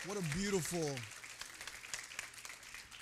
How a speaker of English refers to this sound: Amen. Would you give our worship team a round of applause?